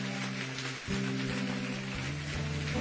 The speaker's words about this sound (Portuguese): Vamos saudá-lo com uma salva de palmas, meu irmão. Em nome de Jesus.